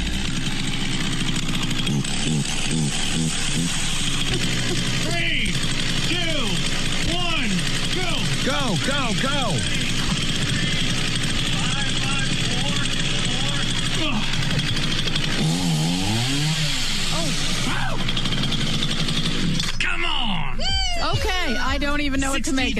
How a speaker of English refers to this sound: A running lawnmower on the chin. That was terrifying. Woo-hoo! So he balanced it for 206 feet, 8 inches.